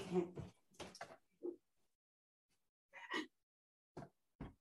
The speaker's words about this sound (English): Don't go anywhere. I'm just going to open the door, but I don't want, because I want to finish.